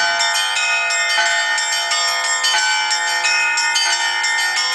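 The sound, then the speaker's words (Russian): Church bells ring loudly in a busy, overlapping peal at a bell-ringing festival at an exhibition, played by a female ringer, the largest bell weighing about 90 kg; several bells struck in quick succession so their bright metallic tones blend into one continuous, shimmering clangor with no voices. “Полюбившийся гостям с прошлого года фестиваль колокольного звона и на этот раз заполнил пространство выставки.”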